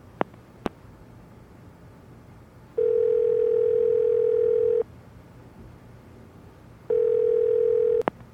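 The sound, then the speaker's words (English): A phone call rings out: two long, steady ringback tones about two seconds each, with a pause between, preceded by a couple of faint clicks and ending in a sharp click as it connects. “I'm going to call him.”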